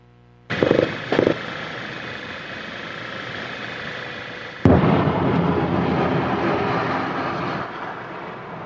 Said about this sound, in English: We're seeing images of car driving through a city as artillery detonates and explodes, missile launchers, tanks, just, oh my God, look like hundreds of tanks.